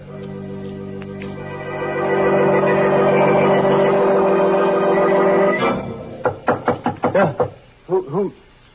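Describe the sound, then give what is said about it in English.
Rapid, sharp knocking on an alley door by a girl out in the rain: a quick burst of about six raps, a short pause, then two more, heard after a sustained, ringing musical drone cuts off. “That's the alley door. Somebody's there.”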